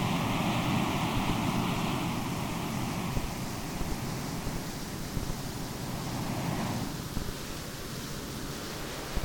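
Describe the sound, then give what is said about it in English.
A steady, continuous wash of ocean surf used as the background sound in a hemi-sync relaxation demonstration, even and fairly loud with no voices, changing near the end to pink sound, a flatter, hiss-like noise containing all sound, its volume in the higher and lower ranges adjusted for typical hearing losses. “First, we change the background sound from ocean surf to pink sound.”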